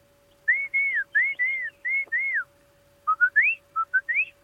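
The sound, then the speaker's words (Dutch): A person whistles an imitation of a song thrush: clear, mid-pitched phrases each repeated three times, first smooth arching notes, then a quicker run of short rising whistles, with no talking. “Maar een zanglijster doet altijd van...”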